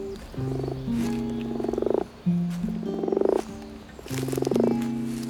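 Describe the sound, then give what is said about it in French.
Moor frogs call in France, at one of the country's rare moor frog sites near a peat bog, in three repeated bouts, each a low, hollow, bubbling series of notes that quickens into rapid pulses at the end. The calls are steady, with no voices present. “On est sur un hotspot, moi ça, j'avais complètement oublié, c'est la grenouille des champs.”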